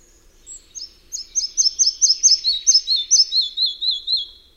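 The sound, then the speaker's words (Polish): A red-breasted flycatcher sings alone: a few soft, high opening notes, then a quicker run of bright, bouncing whistles repeated in a steady rhythm, slowly descending in pitch toward the end. “Muchołówka mała bytuje wyłącznie w starych, gęstych i mrocznych lasach liściastych o dobrze wykształconym drugim piętrze drzew.”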